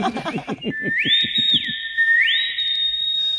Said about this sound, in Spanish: lo que va a hacer es interpretar grandes temas de el soul y del jazz en una revisión silbada de esos grandes estándares. Es que lo hace bien. Sí. Sobre todo no pierde el aliento, que en estos casos es muy importante.